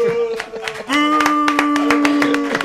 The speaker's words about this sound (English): Boo! Boo! Oh, wait, yeah, quit clapping, man. It's boo, man.